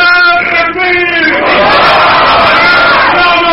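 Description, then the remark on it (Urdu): A loud crowd shouts slogans in unison, a sustained roar of many voices rising in a rhythmic chant, then swelling into an overlapping wall of cheering and yelling. “بس بھائی, بس بھائی, نعرے کسے تک دے بے تکے نہیں.”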